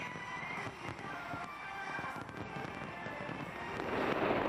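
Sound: fireworks display bursting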